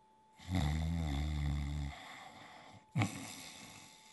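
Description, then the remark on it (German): One loud, rumbling snore drawn out for over a second, then a brief quiet pause and a short, sharp snort or puff of breath. No talking. “Mit vollem Bauch legte er sich wieder ins Bett, schlief ein und fing an, laut zu schnarchen.”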